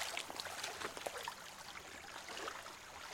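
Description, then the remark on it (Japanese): Steady rushing and gurgling of river water, with small splashes and sloshes as legs move through the current while someone wades through the river with flat-footed steps, continuous without any voices. “川の中を進むためには駒とベタ足が重要ばい。”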